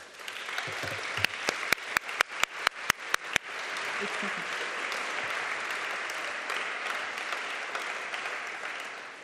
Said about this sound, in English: So I really want now, with applause, to help to thank all those who were involved in this process.